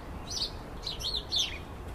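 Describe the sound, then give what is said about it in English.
Sparrows chirp and squabble in a hedge: a few quick bursts of high, busy tweets cluster together over a low background hum, fairly soft, with no voices. “every so often, I hear a right commotion in the hedge, just like I'm hearing now”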